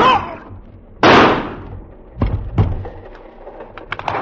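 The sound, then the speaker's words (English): Gunshots fired from a gun inside a dim train compartment: a sharp bang, a louder blast with a ringing decay, then two quicker cracks, followed by faint scattered clicks and rattles. “In the dim compartment, I saw them coming at me. Chiniara and Vlikar. I raised the gun.”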